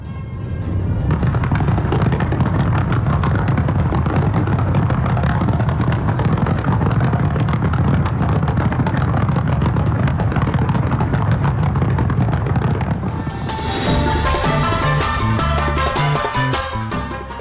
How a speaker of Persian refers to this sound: کره جنوبی برای نخستین بار امروز میزبان مراسم گشایش بازی‌های المپیک زمستانی است. این مراسم با آتش‌بازی آغاز شد.